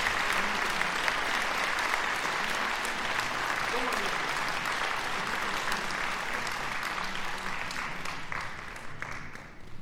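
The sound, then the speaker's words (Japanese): Sustained applause from a large audience after a choir performance fills the space, steady and full for the whole stretch, a dense patter of many hands clapping with a faint murmur of voices beneath. “皆様、今一度盛大な拍手をお願いいたします。”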